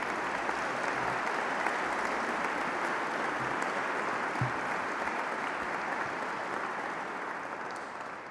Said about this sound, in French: Alors que les lauréats veuillent bien se lever, et je vous prie de les applaudir.